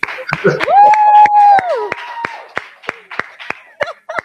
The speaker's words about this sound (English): Can you tell us what's happening there? Why are you clapping? Why are you all clapping?